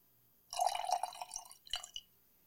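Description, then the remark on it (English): Sake with a sake meter value of -3 glugs and splashes as it's poured into a glass for tasting, a steady burst of about a second followed by a brief second trickle, with no talking. “Well, before we get to the cocktail mixing, let's just try the sake on its own and give it a quick taste. So we'll get it in the glass.”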